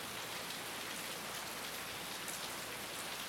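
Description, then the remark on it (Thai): Steady rain falls continuously, a dense, even hiss of drops on a surface with no breaks, moderately quiet, with no voices. “เป็นเสียงฝนนี่แหละพวกเราก็อยู่กับแบบฝึกหัดไปเนาะ”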